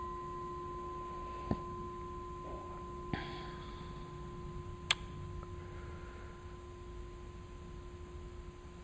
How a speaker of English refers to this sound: That's the bell.